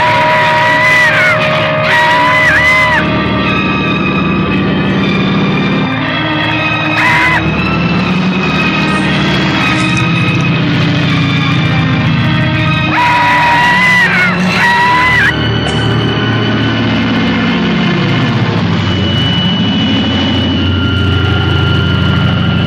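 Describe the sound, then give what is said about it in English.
A man screams and yells in repeated frantic bursts inside a flying airplane, as if a spider were in the plane, over the loud, steady roar of the aircraft engine, which drones and whines continuously throughout. “He said, I swear to God, I would have, like, started screaming and probably fell out of the plane.”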